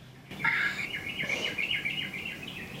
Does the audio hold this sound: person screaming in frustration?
no